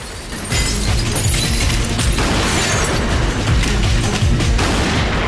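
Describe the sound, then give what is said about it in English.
Loud shotgun fire bursts out in a dense, chaotic volley aimed at a gunman, sharp blasts overlapping with booming impacts and shattering debris, with no voices. “Another gunman appears, but Jonathan opens fire before he has a chance to raise his gun.”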